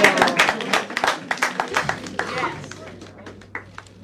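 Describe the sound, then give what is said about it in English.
An audience applauds, starting as a dense burst of clapping that gradually thins out to scattered, fading claps, with faint crowd voices mixed underneath. “I mean, the fact that they applaud for this”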